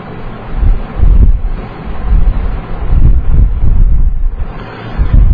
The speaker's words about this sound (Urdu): آج رحم کی ہوا چل رہی ہے، آپ محسوس کر رہے ہیں کھڑکیوں سے بڑی ٹھنڈی ہوائیں آ کے، کراس وینٹیلیشن ہے نا.